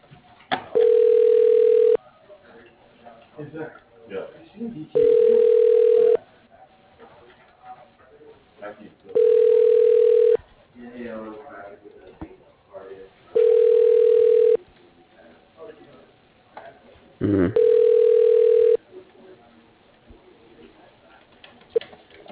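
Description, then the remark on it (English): A telephone ringback tone sounds five times in a steady, evenly spaced pattern while a call to Springfield Electric is being transferred. Each ring is a loud, clear, steady tone lasting about a second and a half, with faint background murmur between rings. “Your call is being transferred.”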